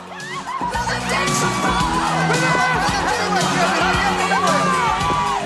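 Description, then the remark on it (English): Male and female arm-wrestling winners at a world championship competition scream and shout in jubilation, loud and continuous, with overlapping whoops and cheers filling the whole stretch from start to finish. “Male and female winners scream and shout with jubilation.”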